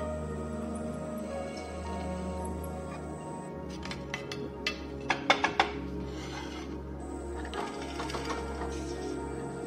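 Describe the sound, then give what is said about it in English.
A steady motorized whine runs throughout, with a burst of sharp metallic clicks and grinding scrapes in the middle, fairly loud, as a drill bores holes in an aluminum plate, marked from a paper template, for mounting to a generator frame. “We place the template on the aluminum plate to mark and drill all the holes.”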